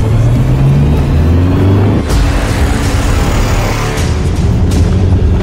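The Toyota Turbo engine of a new Toyota Hilux pickup truck revs loudly, its deep rumble rising and falling in pitch, with a few sharp booming hits cutting through the continuous roar.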